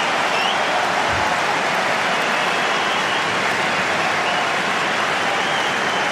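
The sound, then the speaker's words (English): A tennis crowd roars and applauds in a loud, unbroken wash of cheering and clapping that holds steady for several seconds, with no voices speaking over it, after Tsitsipas passes Alcaraz at the net to earn break points. “Well, the roars from the crowd are fully deserved.”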